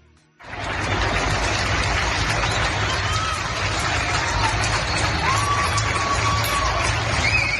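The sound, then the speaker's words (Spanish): A crowd applauding from their balconies at 8 in the evening: dense, steady clapping that swells in suddenly and holds loud throughout, with scattered cheers and a few high whistles rising above it. “Absolutamente nadie se va a olvidar de esos aplausos a las 8 de la tarde en las que aplaudíamos desde nuestros balcones.”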